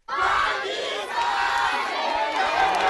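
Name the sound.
crowd cheering and applauding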